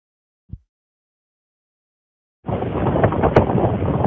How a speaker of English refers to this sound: This video shows the ocean surf this past Wednesday, November 5th. It's hitting the toe of the bluff that is considered not lagoon facing. The ocean surf hits here very often